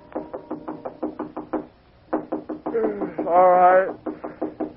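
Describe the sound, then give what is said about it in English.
Rapid, steady knocking on an apartment door at almost 3 a.m., a run of firm raps, a short pause, then more pounding, with a brief drawn-out vocal sound rising over the knocks before the rapping continues. “It was almost 3 a.m. when … knocked on my apartment door.”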